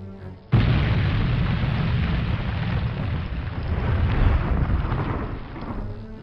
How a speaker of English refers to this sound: What was that? If I know Captain Julian, she has just blown off the tractor beam controls.